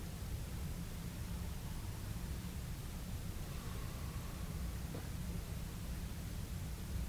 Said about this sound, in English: Still flowing water, listen.